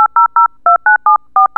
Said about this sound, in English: Dectalk software can play sound files. Dial telephone numbers.